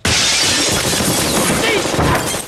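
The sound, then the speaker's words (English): Two men open fire with guns on a pub, blasting out its windows in a loud, dense crash of shattering glass, with bright tinkling shards spraying continuously for a couple of seconds, overwhelming. “The brothers open fire, shattering the windows.”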